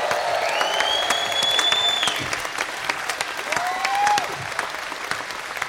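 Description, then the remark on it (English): Steady, dense applause from the audience at the end of a live comedy show at the Odeon, cheering comedian Nato Green, fills the whole stretch, with two long rising whistles cutting through, a high one early on and a lower one near the end. “Give it up for the wonderful and massive NATO Green!”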